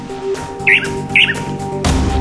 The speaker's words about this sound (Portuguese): A gente está ouvindo o canto do bicho, mas o difícil é ver, porque a ave tem pouco mais de 10 centímetros de tamanho.